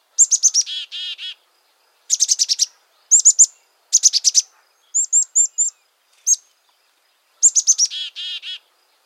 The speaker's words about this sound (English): Here's one of the familiar chickadee calls.